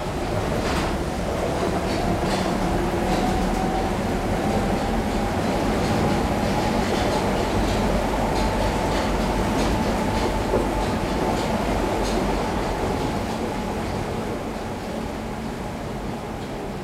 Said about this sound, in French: Cette rame, ce soir, j'ai dû courir pour l'attraper.